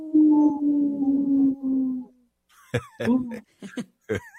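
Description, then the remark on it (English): A person imitates a wolf: one long, steady, low howl lasting about two seconds, then a quick series of short, sharp yelping howls, loud. “In this portion of the show, we like to bring awareness to our Minnesota wolf population. Say no to the hunts. How? Ow! Ow!”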